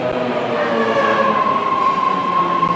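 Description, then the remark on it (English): A subway train in San Francisco rumbles steadily through a tunnel, a dense continuous roar with a sustained metallic whine rising above it, loud throughout with no voices. “As I said, this is a true subway.”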